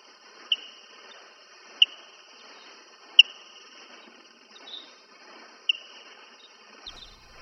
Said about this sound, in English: And here is the Barbastel bat, which is slowed down just as much.